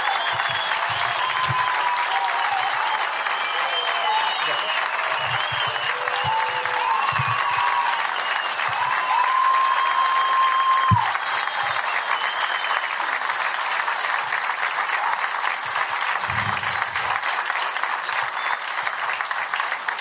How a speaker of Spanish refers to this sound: No sé cómo llamarlo, pero de que aplaudamos la resurrección de Jesucristo, porque gracias a esa resurrección nuestra fe tiene el mayor sentido posible. ¿Estamos? Así que aplaudamos la resurrección de Jesús.